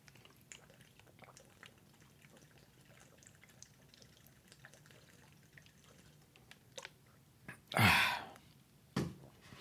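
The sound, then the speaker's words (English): Quiet liquid sounds of cool water: small clicks and drips, then a brief louder splash or gulp near the end followed by a second short burst, with no talking. “I have cool water here. That's good.”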